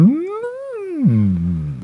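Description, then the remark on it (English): A person's voice imitates a whale call: a single drawn-out moan that rises, holds, then slides down into a low groaning hum, loud, lasting under two seconds. “That's my best whale sound.”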